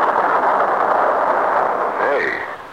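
rain starting to fall

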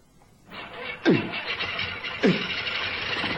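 propeller plane engine starting

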